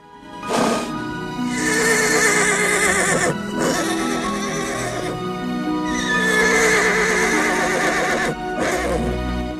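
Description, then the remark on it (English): A horse named Beauty neighs loudly to attract Joe's attention, giving a few long, quavering whinnies one after another with only brief breaks between them. No one speaks. “Beauty neighs to attract his attention.”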